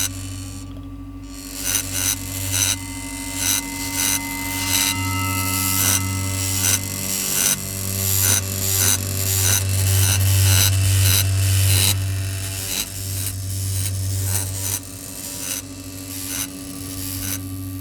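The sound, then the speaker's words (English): A plastic spoon is moved across the nodal points of a resonating feedback dish, rattling and briefly ducking the feedback: a steady low droning hum carries a rapid, irregular stream of buzzy clicks and rasps throughout. No one speaks. “When these are placed on top of the dish, you create a situation where subharmonics and rattles are formed.”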